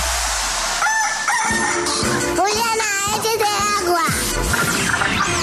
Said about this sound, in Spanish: El gallo.